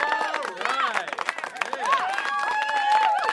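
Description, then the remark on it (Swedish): A small group claps and cheers, with scattered hand claps under overlapping whoops and excited voices, lively, lasting a few seconds. “Jag vill ha applåder.”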